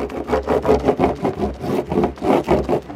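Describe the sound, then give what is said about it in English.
A surfboard being rubbed with wax in quick, steady back-and-forth strokes, about three per second, making a dry, scratchy friction sound with no talking. It is waxed at a beach in Maine on the North Atlantic, with air about 30 degrees and water about 40 degrees. “So you were waxing up here.”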